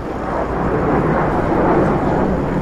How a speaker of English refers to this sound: Adding to the apocalyptic-like atmosphere, an F-16 fighter jet circled low above Lower Manhattan.